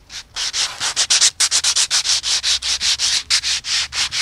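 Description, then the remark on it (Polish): Sandpaper rasps back and forth across a red-marked surface at the Puławy skatepark in Poland, in quick, steady strokes: a bright, hissing scratch repeating about five times a second without pause, with no voices. “Troszeczkę papierkiem o to przejechać, to czerwone.”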